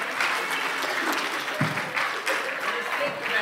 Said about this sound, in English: Hey, big round of applause